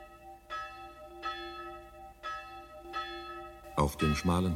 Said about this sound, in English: From the small cemetery outside the Hungarian town of Sopron, the passing bell knells for old Laszlo Bozo, dead for 3 days. It knells to say that the priest has just left the house of the gravedigger and is now going towards the chapel.